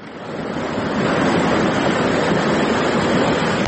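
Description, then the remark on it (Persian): Rushing floodwater roars steadily and loudly, a continuous broad churning wash with no pauses and no voices: floodwater after heavy rain running through the flooded lanes of the village of Vorukh. “در نوارهایی که کاربران فرستادند دیده می شود که کوچه های دهه ورخ در زیر آب قرار دارند و ساکنان تلاش دارند اشیای روزگار خود را از آب بیرون کنند.”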